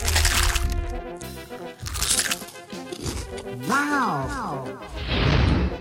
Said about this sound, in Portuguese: É Cheetos Crunch. Esse som irritantemente irresistível é do novo Cheetos Crunch. Um Cheetos diferente que veio diretamente da gringa. Ele vem em dois sabores. White Cheddar e Super Cheddar. E ele é muito crocante.